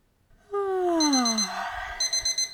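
A falling electronic tone gives way to an alarm clock's shrill, rapid beeping at 8 a.m., repeating in quick bursts, loud with no voices.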